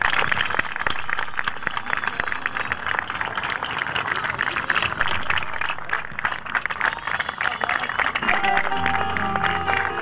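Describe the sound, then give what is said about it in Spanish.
A crowd applauds steadily for about ten seconds in remembrance of detained and disappeared comrades, a dense, even wash of clapping that holds its loudness throughout, with a faint tonal sound appearing near the end. “Y junto a este aplauso, como siempre, los hacemos presente a los compañeros detenidos, desaparecidos, a los que han sufrido exilio, cárcel, muerte”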